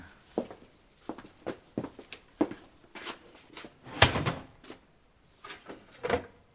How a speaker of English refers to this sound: this is the key to the safety deposit drawer. Go and open it, would you?